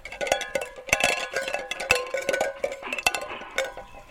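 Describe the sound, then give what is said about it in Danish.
Tin cans tied to a string, together with a chicken set out as bait for a puma, clank and rattle in irregular bursts, bright metallic clinks with ringing tones, jostling continuously for several seconds with no talking. “Og så har jeg bundet nogle, sådan nogle dåser i den snor også. Sådan det larmer.”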